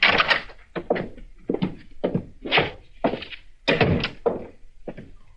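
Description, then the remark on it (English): A door is opened amid a run of dull thunks and knocks, about eight uneven bursts spread over a few seconds, fairly loud. “All right, open the door”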